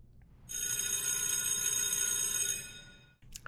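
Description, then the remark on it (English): An electric school bell rings in one continuous, bright metallic clang for about two seconds, then fades out, with no voices and a brief rustle at the very end. “And now, class is in session, the bell's about to ring, so remember, whenever that bell rings here on the pod or in your school, take a nice, deep breath.”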